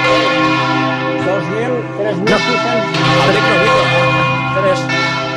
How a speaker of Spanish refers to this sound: 3.600 kilos. De la campana de volteo, la más grande del mundo de volteo. Por lo menos de Europa. 3.600 kilos. En este momento sobre nuestra cabeza tenemos 3.600 kilos dando vueltas. Sonando.